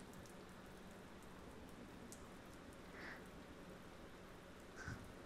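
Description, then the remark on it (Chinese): Steady rain falls in a soft, continuous hiss, fairly quiet and even throughout, with a couple of faint brief drips or taps standing out near the end. No voices. “因为你来了这里，下雨的时间就不用一个人过了，这可能是上天对我的恩惠呢。”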